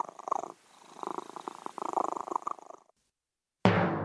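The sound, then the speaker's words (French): A cat purrs steadily in a rhythmic, rumbling pattern for a few seconds, then falls silent before a sudden louder burst of sound cuts in. “Et le soir, ce n'était que ronronnement et ronflement au pied des lits et des cheminées.”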